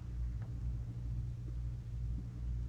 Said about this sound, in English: As we awe, the thunder speaks and the lightning etches the promise on the farthest slate of heaven.